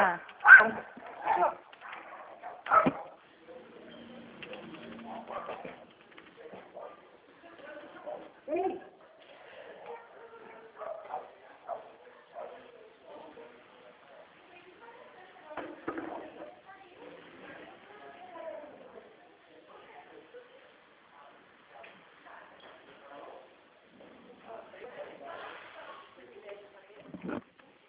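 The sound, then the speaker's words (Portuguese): Two dogs, one of them a neighbour's dog, snarl and bark at each other in rough, irregular bursts, with grunting growls between, loudest at the start and returning later, while a person talks intermittently over the scuffle. “Desculpe, o cachorro do vizinho vai brigar com o meu aqui, sabe?”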